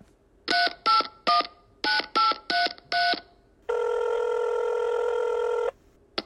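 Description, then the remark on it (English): Seven quick touch-tone keypad beeps dial a 420 hotline number in an uneven rhythm, followed by one long, steady ringing tone lasting about two seconds. Clear, with no talking. “We're dialing into the 420 hotline right now.”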